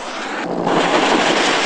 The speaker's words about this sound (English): Helicopters firing rockets at targets today.